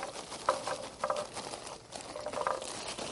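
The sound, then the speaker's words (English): Gasoline is poured over barbecue charcoal, a steady splashing patter with a few brief gurgling bursts, with no one speaking. “You pour some gasoline over it.”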